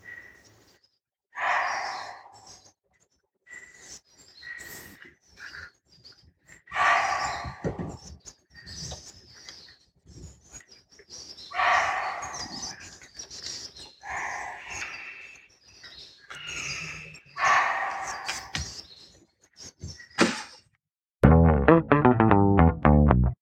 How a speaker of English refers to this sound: And here is a recording of that barking deer giving alarm calls as both a tiger and a leopard was spotted nearby. This is the barking deer, also called muntjac.